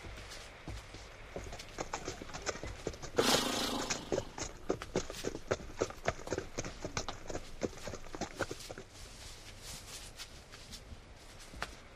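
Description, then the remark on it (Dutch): Horses' hooves clip-clop in a steady, repeated rhythm across the whole stretch, fairly loud, with a brief louder rustling burst partway through and no talking. “Maar goed, ik zal de paarden vastbinden.”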